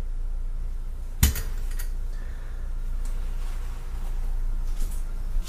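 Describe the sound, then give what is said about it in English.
A basket is set down on a paper towel with one sharp clunk, followed by a few faint light taps and clicks. “I'm going to just put this back. I've got a paper towel that I rest the basket on.”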